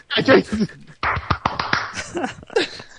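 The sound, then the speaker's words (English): Several sharp hand claps crack out in an uneven burst, mixed in with people talking over them. “Why are you clapping then?”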